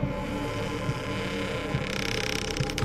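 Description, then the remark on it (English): A door creaks slowly open wide with a drawn-out, grinding groan over a low hum, ending in a quick run of ratchety clicks. Steady, with no voices. “He reached out his arm, handed me a pistol, and opened the door wide for me.”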